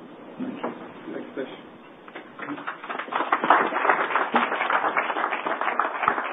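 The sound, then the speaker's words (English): A crowd claps for a speaker on stage, starting as scattered, softer clapping with some murmuring and swelling into steady, dense applause that fills the second half. “I hope you don't have to applaud again when I get off the stage, because I'm going to be back”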